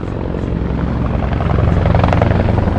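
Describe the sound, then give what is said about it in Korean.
A helicopter flies overhead above Seoul during a military parade, with a steady, pulsing rotor chop that grows slightly louder over a few seconds, filling the air with a low, continuous drone. “서울 상공에 헬기가 날아다니고 오색 종이가루가 흩날리는 가운데 드디어 선도부대의 신호음과 함께 멋진 행진이 시작됐습니다.”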